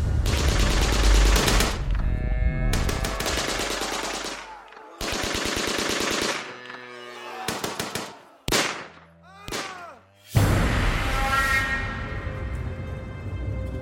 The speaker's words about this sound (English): The soldiers unleashed their machine guns and opened fire on the men's legs.